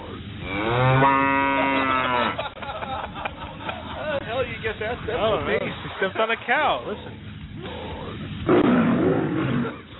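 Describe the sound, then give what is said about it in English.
A loud, drawn-out, resonant cow moo fills the first couple of seconds, followed by a stretch of people talking with more rough, growly vocal sounds toward the end. “Stepped on a cow.”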